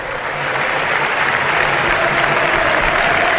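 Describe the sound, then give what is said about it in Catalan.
A crowd of over 20,000 at Cornellà stadium gives a sustained ovation to the medical staff of Espanyol and Albacete during a football match, dense applause and cheering that swells in the first half second and then holds steady and loud, with no single voice standing out. “Aquesta és l'ovació que sentim per als responsables mèdics de tots dos equips.”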